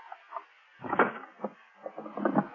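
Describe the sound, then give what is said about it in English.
A locked wooden drawer is forced open: a series of uneven wooden rattles and thumps, one heavier jolt early on, then a quicker cluster of knocking, scraping jerks. No one speaks. “Let's just force it open.”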